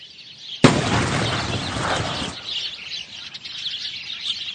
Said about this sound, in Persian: ناگهان صدای تیری میاد و همه گنجشکا پرواز میکنن و میرن.